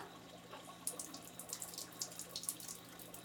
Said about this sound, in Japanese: まずはシャワーを。